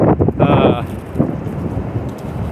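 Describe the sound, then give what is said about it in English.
Strong wind buffets the microphone in a loud, rumbling roar, surging in gusts and easing slightly toward the end. “But I think the truth of that statement, holy shit, it's windy.”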